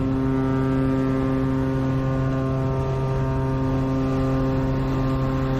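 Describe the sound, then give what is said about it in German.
A steady, droning boat engine hums loudly and continuously with strong low tonal throbbing, aboard a boat on Sydney Harbour, passing the Opera House and Taronga Zoo, with no voices. “Und auf dem Boot, da haben wir dann auch gleich nochmal eine richtig schöne Strecke vor uns.”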